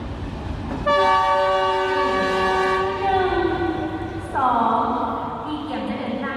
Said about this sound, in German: In der Bahnhofshalle von Laos Hauptstadt Vientiane. Die Menschen stehen Schlange, um aufs Gleis zu dürfen. Gerade ist der Zug eingefahren. Ein hochmoderner Schnellzug, der erste des Landes.